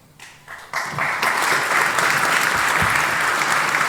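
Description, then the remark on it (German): Applause from an audience starts with a few scattered claps, then swells within about a second into steady, dense clapping that holds loud and even to the end. “Ich danke euch für diese wunderschönen Tage und dass ihr in den Vorträgen gewesen seid und dass ihr die Vortragenden mit eurem Applaus, mit eurer Aufmerksamkeit unterstützt habt.”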